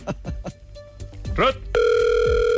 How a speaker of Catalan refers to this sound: Marcant el telèfon de la Ruth.